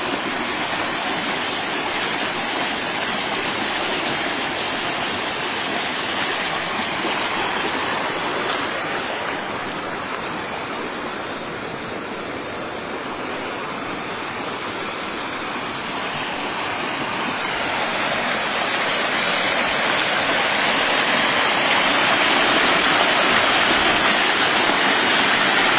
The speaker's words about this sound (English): Creek is really roaring.